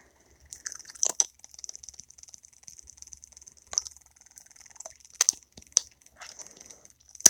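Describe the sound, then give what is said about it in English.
A sex toy vibrates quietly with a thin, steady high-pitched buzz that holds throughout, broken by scattered soft clicks and crackles. No one speaks. “That's the noise it makes, so it's pretty quiet. It kind of sounds like cat purring.”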